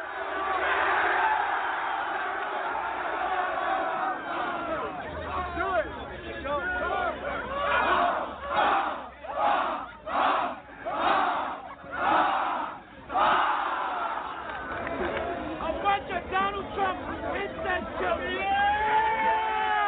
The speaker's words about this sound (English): The students, many whom are wearing Make America Great Again apparel, start yelling and chanting back at them.